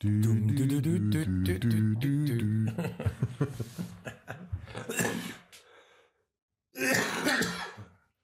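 A man's harsh, drawn-out bout of throat clearing and rough coughing during a short break in the show, loud, breaking into several strained bursts, then a brief silence before one more forceful cough-like burst.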